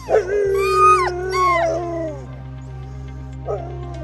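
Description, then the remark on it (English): Several Door County sled dogs, which pull sled rides, howl and whine together in long, wavering cries that rise and fall over a couple of seconds, then fade, with a brief yelp near the end over a steady low hum. “I may still be recovering, but the Door County sled dogs have kept up their rides all season long and for one last weekend are raring to go.”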